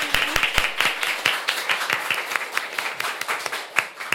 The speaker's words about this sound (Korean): 앞으로도 또 우리 한 시간 동안 교수님과 함께 잘 해봅시다. 박수 부탁드릴게요.